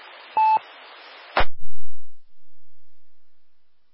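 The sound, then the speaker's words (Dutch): A short burst of telephone dialing tones over a hissy line, two quick beeps followed by a sharp click as the receiver clunks, then the line goes quiet. “Weer telefoon, Eva. Ja, ik heb ook telefoon.”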